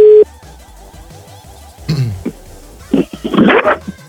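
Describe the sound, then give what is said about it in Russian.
A short, loud telephone line tone on a phone call sounds at the very start and then cuts off, leaving a faint hum, before a dog barks and yelps in bursts near the end. “А, вот телефон. Алло.”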